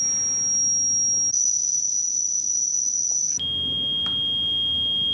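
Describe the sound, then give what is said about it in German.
Simulated tinnitus: a steady, high-pitched whistling tone sounds throughout over a low rushing hiss, swelling louder and piercing in the middle, then settling to a slightly lower pitch. “Und das hört sich dann wie ein Pfeifen, Brummen oder Rauschen an.”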